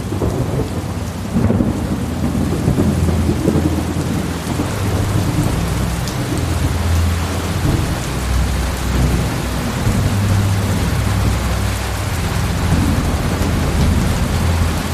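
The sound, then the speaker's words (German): A heavy summer thunderstorm downpour roars steadily throughout, large drops drumming on dry ground and a veranda roof, while deep rolls of thunder rumble low, swelling and fading beneath the dense hiss of rain, with lightning and no voices present. “Auf einmal umgibt uns fast ein tropischer Platzregen. Begleitet von starkem Donner und hellen Blitzen hat uns das sommerliche Gewitter erreicht.”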